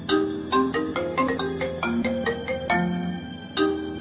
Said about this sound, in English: It's midnight. You are home alone and you sneeze. Ach! Suddenly, your phone rings.